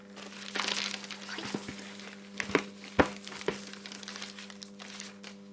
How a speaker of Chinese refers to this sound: 我们一边看这个视频，一边把那个蛋糕弄来看一看，拆一下我。